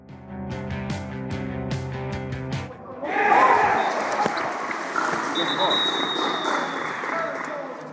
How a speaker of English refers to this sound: The applause you hear there is for Conor Loftus scoring Mayo's third goal of the game, which puts them back to the halftime margin of a 16-point lead as the water break comes.